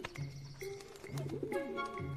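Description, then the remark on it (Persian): A pigeon coos in low, throaty bursts, three rolling coos spaced across the moment, clear over a faint background. “کبوترتون تو این کار هیچ کمکی نمیکنه.”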